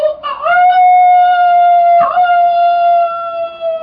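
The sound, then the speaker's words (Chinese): A person, hands cupped around the mouth, imitates a big rooster crowing with a loud, drawn-out falsetto call that rises at the start, breaks briefly midway, then holds a long steady note. No other sounds. “说着两手握在嘴边，学起大公鸡的叫声。”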